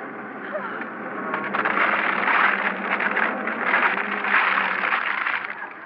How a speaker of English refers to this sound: I can't hear you over the sound of the motor. Ah, the motor! It's running! All right! Jump in the car!